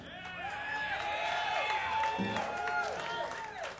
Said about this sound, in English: I appreciate that applause in advance. Thank you.